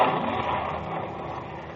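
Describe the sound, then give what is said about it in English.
The engine of Captain Malcolm Campbell's 1,450-horsepower racing car, the Bluebird, roars in a dense, steady rush of noise that holds for under two seconds and eases off slightly toward the end, with no voices. It runs a one-mile course on Ocean Beach, Daytona, Florida, in a speed record attempt. “Captain Malcolm Campbell is driving his 1,450-horsepower speeding car, the Bluebird, down and back on a one-mile course.”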